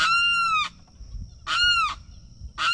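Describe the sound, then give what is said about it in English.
A limpkin, a crane with a long windpipe, screams in loud, drawn-out wailing cries, harsh and nasal with a rasping edge, repeated three times with brief pauses between, the last one cut short. Recording from the Cornell Ornithology Lab. “The limpkin is a crane with a long windpipe, and it's known for its screams.”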